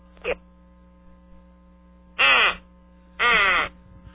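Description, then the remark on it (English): A duck quacks three times as a phone menu option: a brief quack, then two longer, raspy, nasal quacks after a pause, all over a steady low electrical hum with no talking. “If you would like to hear a duck quack, press 7.”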